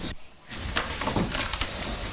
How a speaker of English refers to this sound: Coming through the door. What is it? Open the door.